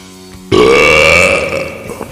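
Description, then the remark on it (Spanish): A single loud, drawn-out burp begins abruptly and rumbles with a steady, slightly rising tone for over a second before trailing off into quiet. “Tú sabes que los micrófonos se echan a perder si uno erupta en ellos.”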